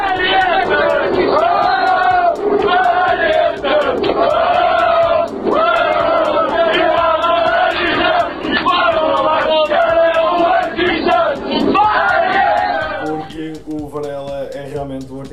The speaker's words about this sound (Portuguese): Tivemos uma viagem bastante famosa com uns amigos, uns cavalheiros que fizeram questão de alegrar. Exatamente, fazer a festa no metro. Antes de chegarmos à queima já havia festa no metro. Temos aqui uma gravação deles a cantarem e tudo para lá.